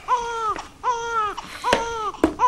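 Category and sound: human body sound, baby crying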